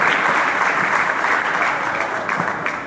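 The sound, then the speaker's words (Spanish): Sustained applause from an audience at an anti-imperialist event held at the Trader World Center, applauding the directors of the Trader World Center and Hotel Expedia: a dense steady patter of many hands clapping at full volume that eases off slightly toward the end. “Imagínense ustedes, pedimos un aplauso para los directivos del Trader World Center, del Hotel Expedia, por permitirnos hacer este evento acá.”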